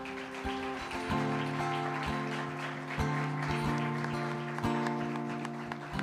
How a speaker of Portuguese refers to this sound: Pode aplaudir a Jesus, queridos.